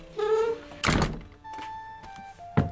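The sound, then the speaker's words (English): The squeaky old wooden door of the Howland House in Plymouth, the house where Mayflower pilgrim John Howland lived, creaks on its hinges and shuts with a heavy thud, followed by faint creaking and a second, sharper clunk as the latch settles. “… welcomes our crew and bids us close the door.”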